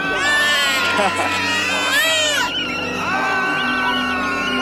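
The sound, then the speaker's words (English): A tea kettle boiling tea on the stove whistles loudly and without pause, its shrill, layered tone wavering and bending up and down in pitch like a wailing cry. “I think your tea is boiling.”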